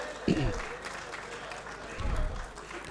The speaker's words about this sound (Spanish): Y estoy aquí y quiero pedir un aplauso a las mujeres paraguayas en la persona de estas diputadas del Paraguay.